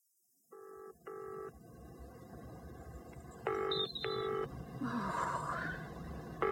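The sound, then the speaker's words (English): A telephone number is dialed: about five short, steady electronic keypad tones, mostly in quick pairs with uneven pauses between, sounding over a low continuous background rumble. “Can you keep an eye on him for me while I go and phone Alistair?”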